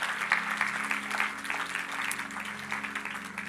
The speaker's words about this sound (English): All right. Can we just give John a hand clap for that again, for that word?